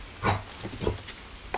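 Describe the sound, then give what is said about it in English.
A dog snaps its jaws at water squirted up into the air by a sprinkler pad in hot weather: several quick snapping bursts at irregular intervals over a faint, steady background hiss. “You hear his jaws snap.”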